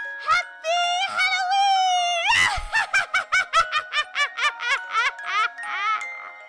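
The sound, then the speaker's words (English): A woman lets out a high, wavering witch-like shriek as a happy Halloween sign-off. It breaks into a rapid string of cackling bursts, like an exaggerated Halloween witch laugh, loud and alone. “So I'm just going to give my best witchy happy Halloween shriek that I yes.”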